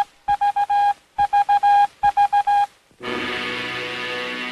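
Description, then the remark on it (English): Three quick bursts of four short, high beeps from the radio transmitter atop a revolving Earth in the Radio Pictures opening of the film King Kong, Morse-like and evenly spaced, followed by a loud sustained buzzing swell that holds steady to the end. “Words appear in sync with the beeping signal, a radio picture.”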